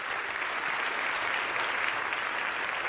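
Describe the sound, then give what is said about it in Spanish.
In an auditorium, an audience applauds a children's choir steadily, a dense, even wash of many hands clapping that holds at a constant loudness throughout with no voices breaking through. “En un auditorio, el público aplaude al coro infantil.”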